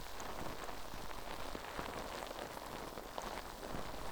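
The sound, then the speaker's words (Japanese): Foam bubbles fizzing right by the ear during a wash and massage, a dense, steady crackle of countless tiny pops and bursts with a bright hiss, holding an even level throughout with no voices. “泡が耳元でシュワシュワする音、お好きですか？”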